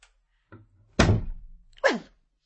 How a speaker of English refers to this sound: Close the door.